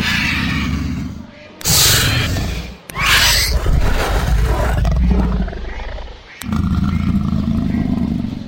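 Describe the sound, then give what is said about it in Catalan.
Velociraptors, small and very fast, roar in several loud, harsh screeching bursts over a deep, continuous rumble, broken by a few brief pauses, with a restless rushing quality as they run quickly through moving grass. “No, no són gossos. Es diuen velociraptors i són molt ràpids.”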